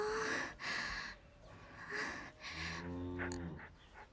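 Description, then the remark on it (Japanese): Several excited breeding cows moo loudly, overlapping calls with snorts and breathy exhalations, ending in a long, deep, resonant low moo. “あの牛さんたちなんか怖いんですけど。興奮してる。”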